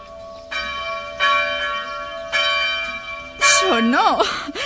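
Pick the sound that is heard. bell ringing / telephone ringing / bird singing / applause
bell ringing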